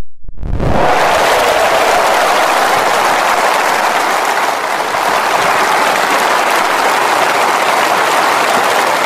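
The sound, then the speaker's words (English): A large conference audience bursts into loud, sustained, rapturous applause for David Cameron's speech, a dense steady roar of clapping that starts abruptly and keeps going at full strength for nearly half a minute, with no voices audible. “Well, that was probably the biggest rapturous round of applause that David Cameron got during the conference, nearly half a minute of it.”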